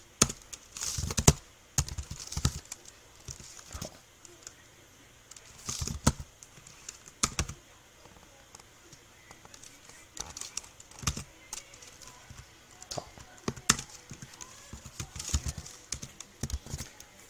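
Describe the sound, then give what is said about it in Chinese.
Fairly quiet typing on a computer keyboard while writing program code, mostly with the space bar and tab, with irregular bursts of sharp key clicks separated by brief pauses, and no one speaking. “你又发现我刚才打字的时候，其实 intelligence 它提示非常快速。”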